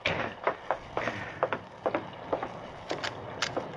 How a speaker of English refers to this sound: Someone was pounding on the door of the stable. It's midnight. Who can that be?